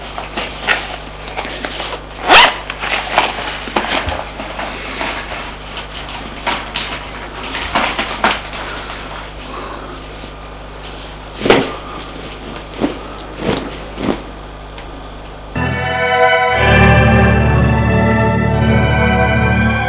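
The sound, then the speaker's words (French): A suitcase is heaved up from the floor onto a chair with a thud, then its latches click and contents rustle and knock in a string of sharp handling noises as it is unpacked, before music swells in for the last few seconds. “Il prend la valise qui est à terre. Et va la mettre sur la chaise pour commencer à la défaire.”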